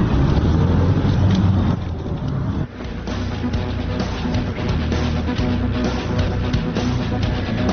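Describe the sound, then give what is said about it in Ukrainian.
Steady, loud road rumble from inside a taxi driving on a highway toward Zhytomyr, a continuous low engine drone and tyre hiss lasting throughout, dipping briefly midway, with no one talking. “Перед нами зупинився водій таксі.”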